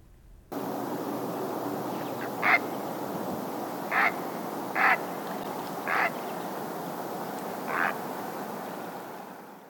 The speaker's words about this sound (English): We're going to end today with the great blue heron, just a little reminder of what that dinosaur bird sounds like.